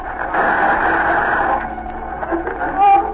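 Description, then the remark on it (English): Radio interference: a dense, steady hiss of static for about a second and a half, then a choppier crackle that ends in a short, loud warbling whine. “There's the interference again. Cut off the radio.”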